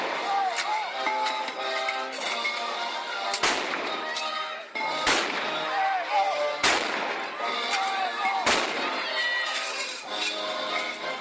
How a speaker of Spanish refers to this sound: la obertura 1812 de Tchaikovsky, en la que, como suele ser habitual en Pedraza, intervendrán cañones de la Academia de Artillería de Segovia